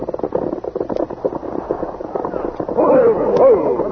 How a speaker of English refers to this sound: As the Lone Ranger and Tonto, accompanied by Huck Corey, rode toward Deep Canyon, they heard gunshots.